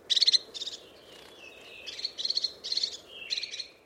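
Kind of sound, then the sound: bird, crested tit calls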